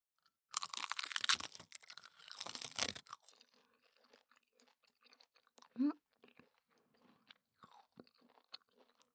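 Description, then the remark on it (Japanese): A loud, dense burst of crisp crackling crunches for a few seconds, then quieter sporadic crunches and small mouth clicks as thin sheets of cheap packaged Korean seaweed, with no sesame oil on them, are chewed. “今度は韓国海苔。シートに入ってるんだよね。”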